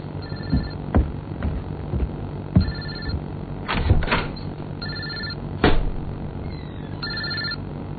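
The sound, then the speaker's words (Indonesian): A mobile phone rings at 10 p.m. in a bedroom on the second floor, in repeated short electronic bursts, steady, with a few thumps and clunky movement noises between the rings and a low hum underneath. No one speaks. “Sampai akhirnya, aku memutuskan untuk segera ke kamar karena aku mendengar suara handphoneku berbunyi.”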